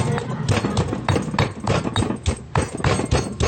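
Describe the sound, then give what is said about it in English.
Spices, including a finely sliced leaf, are pounded hard in a mortar and pestle: a quick, steady run of loud, heavy thuds, several per second, with no talking. “We start to pound, and very hard. Have to pound very hard, like this.”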